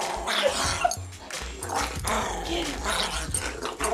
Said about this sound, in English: Even in play, Frankie sounded like a maniac. Here's the only recording I have of him happily wrestling with my other dog, Memphis.